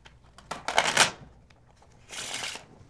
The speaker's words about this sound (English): It's back here. All right. I'm going to cut it into the deck like this. Okay. Shuffle the cards.